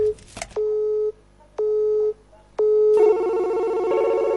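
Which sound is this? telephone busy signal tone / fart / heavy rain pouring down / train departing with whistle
telephone busy signal tone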